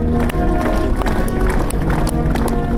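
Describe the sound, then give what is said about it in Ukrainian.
A large crowd of admirers claps steadily and loudly at the end of a funeral farewell ceremony for a singer in Kyiv, Ukraine, the dense patter running throughout, with voices shouting bravo over the applause. “Завершилася церемонія прощання оплесками та вигуками «Браво!».”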